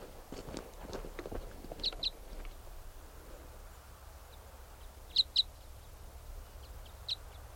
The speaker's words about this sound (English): There's another type 5 bird around, calling in response to 395, who's loud there, and this bird might come in.